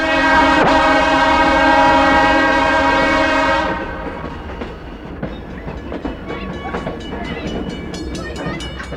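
A train horn blares loudly and steadily for a few seconds, then gives way to the rumbling, rhythmic clatter of a passenger train rolling along the rails.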